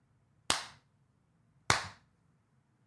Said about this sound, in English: And I mean, wait, should I pause for a round of applause? Pause.